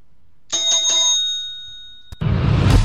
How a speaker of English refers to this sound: ring the bell.